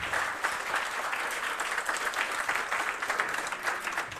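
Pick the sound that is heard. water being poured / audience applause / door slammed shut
audience applause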